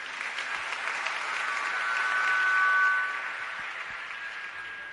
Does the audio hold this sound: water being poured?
no